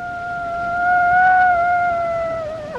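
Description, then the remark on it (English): A Mexican gray wolf gives one long, steady howl, a clear sustained note that holds its pitch and then dips at the end. It is loud, with no voices. “The howl of a Mexican gray wolf.”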